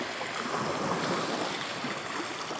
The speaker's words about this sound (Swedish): Bara hörd vågornas brus.